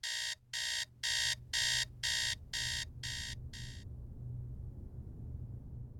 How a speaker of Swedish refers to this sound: Det är tidig morgon. Larmklockan ringer. 05.30.